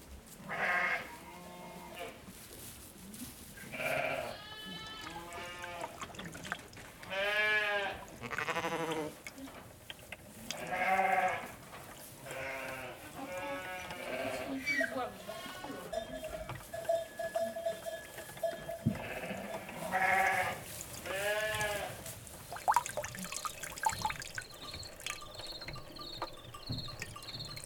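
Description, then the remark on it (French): A flock of sheep kept together with donkeys for flock protection bleats repeatedly, overlapping calls rising and falling, with a steady chirp of insects in the background throughout. “Entre les ânes et le troupeau.”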